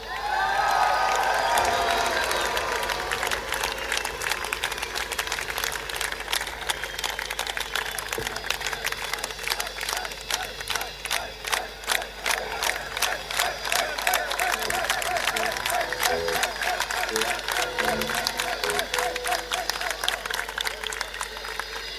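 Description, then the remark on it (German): A crowd claps steadily for the whole crew for over twenty seconds, a dense, even wash of applause with a brief cheer rising near the start, no talking over it. “Applaus für unsere gesamte Crew.”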